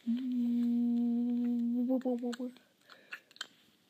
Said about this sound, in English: chewing on his toy right now. I wonder if you could hear it.